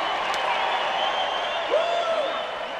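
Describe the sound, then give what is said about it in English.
A large crowd cheers and applauds at the Republican convention as Illinois casts its delegates and Donald Trump wins the GOP nomination, a steady, dense roar of clapping and voices with scattered shouts rising above it throughout. “After the cheering died down, I overheard a woman saying, "Take that, mainstream media."”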